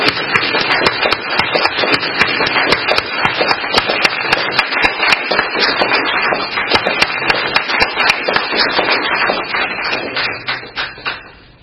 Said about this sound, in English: Everybody give him a big warm round of applause.